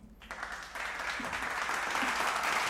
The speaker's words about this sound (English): I'm proud of y'all. Y'all going to get a round of applause because I love y'all.